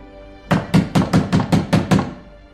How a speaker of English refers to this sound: 10 years later, a hand pounds on a door.